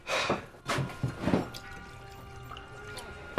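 drink poured

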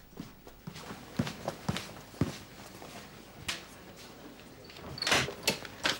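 footsteps approaching a door

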